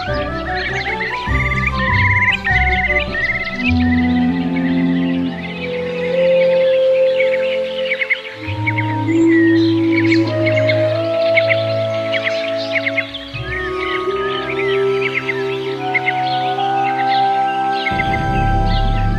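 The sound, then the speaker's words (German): Lapwings in display flight, redshanks and black-tailed godwits call busily in a spring meadow nature reserve, a dense overlapping chorus of whistles, trills and chirps over a steady, sustained tonal background that shifts pitch a few times. “Kiebitze überschlagen sich förmlich bei ihrem Balzflug, Rotschenkel und Uferschnepfen trällern.”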